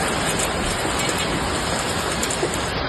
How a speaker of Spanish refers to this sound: pero también de la enorme tromba de agua y de granizo que ha caído en Bardallura, en Zaragoza.